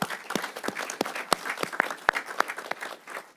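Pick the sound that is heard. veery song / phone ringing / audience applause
audience applause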